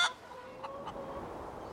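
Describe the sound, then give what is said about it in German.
A chicken, Trudi, a favourite hen, clucks softly, a quick burst at the start followed by a couple of short, faint clucks over a thin, steady background. “Trudi war Vanyas Lieblingshuhn.”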